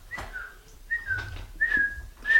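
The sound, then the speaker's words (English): A person whistles an imitation of the Twitter bird call three or four times, each a quick rising-then-falling chirp, with a soft low rumble underneath and no talking. “What is the Twitter whistle? What's it sound like?”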